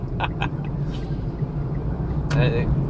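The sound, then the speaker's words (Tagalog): Trucks rumble on a road in a steady, deep, unbroken drone, with a few short higher-pitched bursts and a brief tonal squeal near the end cutting through the engine noise. “So, currently, pinaliligiran tayo ng mga trucks.”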